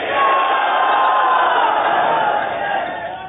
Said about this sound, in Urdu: کون کون ذرا انشاءاللہ کا زوردار نعرہ لگائیں.